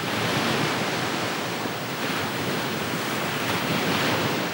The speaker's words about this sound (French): Une sorte de rythme faisait de ce bruit une mélodie terrible. Le rivage vibrant sous le coup de vagues répondait à la haute mer retentissante.